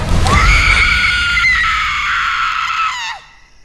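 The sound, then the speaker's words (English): A single long, shrill scream of fear rises sharply and holds at a piercing pitch for about three seconds before breaking off, loud, like a horror-film Scream Queen shriek. “unleashes the most ear-piercing Scream Queen scream.”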